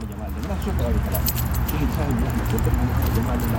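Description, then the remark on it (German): Keys jingle and clink steadily at a man's waistband as he walks across the grounds of the National Museum in Khartoum, Sudan, on the bank of the Blue Nile, the metallic rattling over a low, constant outdoor rumble. “Wenn er über das weitläufige Gelände am Ufer des Blauen Nils läuft, klimpert es an seinem Hosenbund.”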